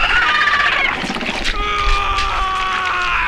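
A loud, piercing scream of pain echoes through a forest, holding for several seconds, its shrill pitch wavering and straining without a break. No one speaks.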